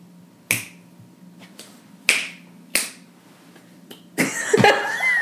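Three sharp, crisp finger snaps at uneven intervals, with a couple of much fainter attempts in between, followed by a rough burst of breathy noise at the end.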